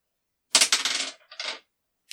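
A small amber die, a souvenir bought in Gdansk, is rolled across a hard surface and lands on a one: a burst of rapid clattering bounces that trails off, followed by a brief final click as it settles.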